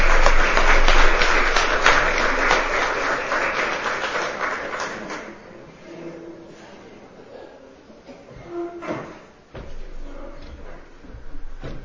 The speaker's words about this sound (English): And it's my pleasure to introduce Tony to you tonight as our second speaker. So let's give Tony a round of applause.